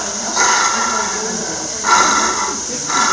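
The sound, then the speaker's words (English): A dog growls in low, rough bursts while resource guarding his chew, rising three times over a few seconds with brief easing between them, over a steady background hiss. “He's resource guarding his chewy against his lip.”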